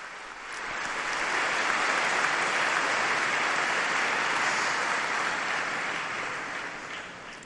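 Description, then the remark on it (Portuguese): A crowd applauds steadily at Pope Francis's general audience, thanking young performers: a dense wash of many hands clapping that swells quickly, holds at an even level for several seconds, then slowly eases off. No one speaks over it. “Vamos agradecê-lo, então, com um grande aplauso.”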